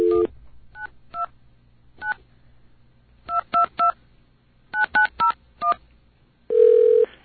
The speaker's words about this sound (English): Here's a test. We're going to get a dial tone here and call this test number to prove that the 929 area code exists.